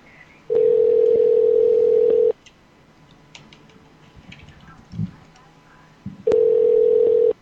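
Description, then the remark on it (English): A phone's outgoing ringback tone sounds twice, each a steady two-second purr separated by a long silent gap, with faint background clicks and rustle between rings. “It's ringing.”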